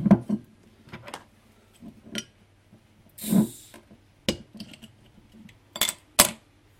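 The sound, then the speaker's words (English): A bottle of Saddler's Ales bitter from Stavage Road in Lye being opened: scattered sharp metallic clicks and taps, a brief fizzy hiss in the middle, then a few more crisp clinks against a quiet background. “So let's crack this wee beastie.”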